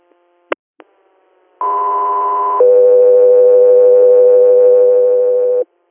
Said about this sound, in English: Stand by for tones.